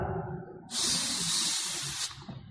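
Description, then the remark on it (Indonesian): A voice imitates a snake's hiss: one loud, sustained breathy hiss lasting over a second, rising abruptly and cutting off sharply, over a faint low room murmur. “Ternyata ada suara desisan apa? Ular.”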